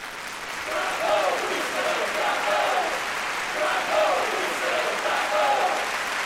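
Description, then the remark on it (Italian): A large audience applauds steadily for several seconds after a performance, a dense, sustained, prolonged clapping with indistinct crowd voices and cheers mixed in. “Alle due ultime esecuzioni, anzi, ebbi dei risultati buoni, se non ottimi, e il pubblico se ne accorse, poiché gli applausi furono più nutriti e prolungati, tanto che dovetti parecchie volte presentarmi alla ribalta.”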